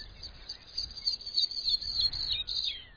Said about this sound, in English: And during all this, a pipit was up there singing deliriously, as if it were occasion for a party.